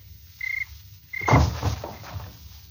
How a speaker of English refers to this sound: Dead cricket. 120 pounds of country girl just fell on him.